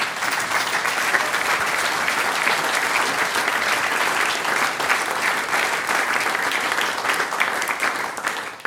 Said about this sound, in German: Liebe Damen und Herren, Sie haben den ganzen Abend lang so fleißig für uns geklatscht.